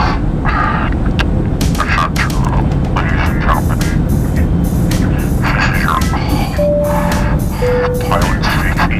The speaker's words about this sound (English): Why is he breathing like that? Stop it.